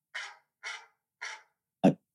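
A dog gives three short, breathy huffs in an even rhythm, then one sharper, deeper bark, fairly quiet with no talking.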